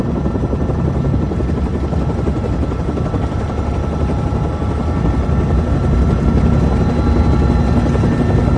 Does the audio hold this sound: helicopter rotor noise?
yes